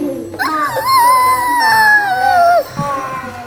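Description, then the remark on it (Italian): A voice imitates an elephant's trumpet: one loud, sustained high-pitched call lasting about two seconds, wavering slightly and sliding down in pitch before cutting off. “Che verso fa l'elefante?”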